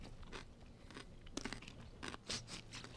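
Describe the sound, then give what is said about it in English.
A crunchy bite into the last of several pickles: several sharp, wet crunches in quick succession, loud against a quiet background with no talking. “Big bite on this last one. Wait, hold on. Let me make sure you guys get the crunch.”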